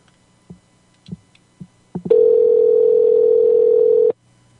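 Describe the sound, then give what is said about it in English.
A handful of soft clicks like handset buttons, then a loud, steady busy tone on a telephone line hums unbroken for about two seconds before cutting off abruptly, as a caller rings a man again and finds the line busy. No voices. “It's busy.”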